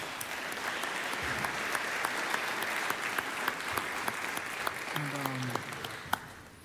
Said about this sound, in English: Could we just give a round of applause one more time?